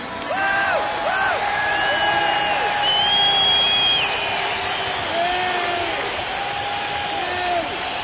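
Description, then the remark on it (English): A large audience at a concert shouts, whoops and screams continuously while the singer tries to sing, with overlapping high-pitched yells rising above a dense roar of many voices at steady, loud volume. “For fuck's sake, stop letting off fireworks and shouting and screaming.”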